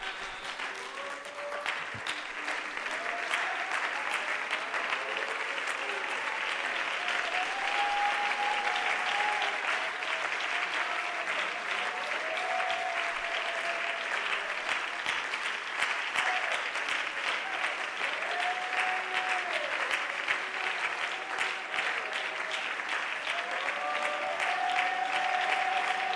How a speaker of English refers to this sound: Let's stand and clap our hands to Jesus.